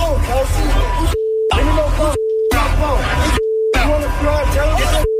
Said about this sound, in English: So if you can't hear because he's obviously being bleeped, let's just say the guy called him a dummy.